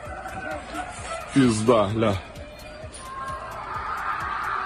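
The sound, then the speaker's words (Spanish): Anguished screams of people trapped under the rubble of an apartment block hit in a Russian army attack in the city of Dnipro: one loud, wavering cry rises over a steady murmur of background voices and faint repeated tapping, then fades back into the commotion. “Son los gritos de gente atrapada bajo los escombros, a los que a esta hora aún tratan de rescatar.”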